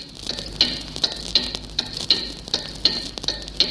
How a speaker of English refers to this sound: And of course, there was a station directed towards Germany. On November the 10th, 1940, its clock tuning signal first appeared on shortwave.